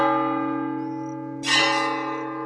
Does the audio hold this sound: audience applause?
no